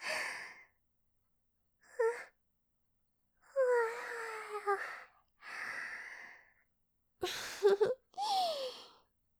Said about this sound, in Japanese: すごいあくびした。